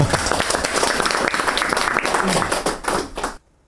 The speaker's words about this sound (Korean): 2016년 12월 16일 오늘 세 분의 뜻깊은 날을 맞아서 여러분들 많이 모여주셔서 감사하고 1주년과 두 분의 100일 잔치를 시작하도록 하겠습니다. 박수!